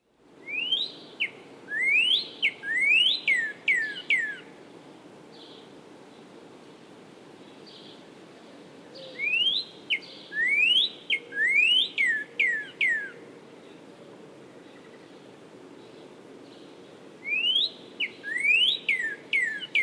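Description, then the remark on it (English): A cardinal sings loud, clear upslurred 'wheat' whistles in three phrases, each a quick run of four or five rising notes, separated by short pauses over a low background hum. “Now the upslurred, wheat, wheat.”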